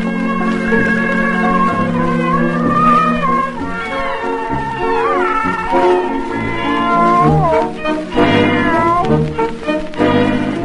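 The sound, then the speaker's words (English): Buddy, a cat from Tokyo, meows several times, its drawn-out, wavering cries rising and falling over a steady bed of sustained tones, loud throughout. “And my friend Buddy from Tokyo, Tracy's cat.”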